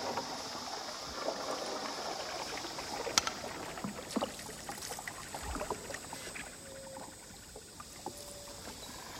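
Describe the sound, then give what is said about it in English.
A small boat searching for manatees pushes through bushes on flooded channels, with scattered crackles and rustles of branches scraping the hull over a steady wash of water, with no talking. “Just about to hit another bush.”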